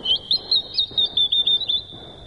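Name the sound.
small bird chirping song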